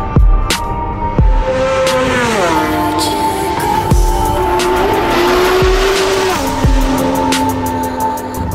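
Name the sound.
racing motorcycles speeding past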